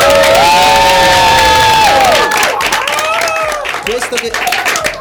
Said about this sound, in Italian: Ce l'avete fatta. Un applauso, fatevi sentire.